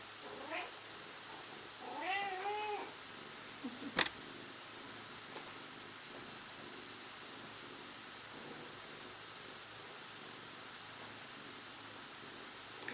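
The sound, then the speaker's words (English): A female cat lets out a short meow, then a longer, wavering meow a moment later, over a steady low hiss. A sharp click follows, then only quiet background noise. “And know that the presence of the cat is not a distraction.”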